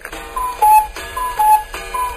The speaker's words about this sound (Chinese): 报时钟里的布谷鸟跳出来敲打了3下